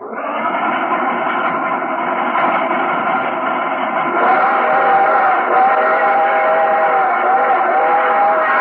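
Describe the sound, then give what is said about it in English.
A loud, sustained train whistle, the Welcome Travelers signal whistle of an NBC radio show from Chicago, sounds as a steady multi-tone chord for about eight seconds, its pitch shifting slightly partway through, with a muffled, narrow old-radio quality and no talking. “There's the Welcome Traveler's Whistle.”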